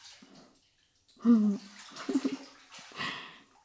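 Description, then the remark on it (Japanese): Water sloshes and splashes in a bathtub in a few short bursts, with gurgling swirls as bath foam and water are scooped together; no one speaks. “泡かき集めてきます。”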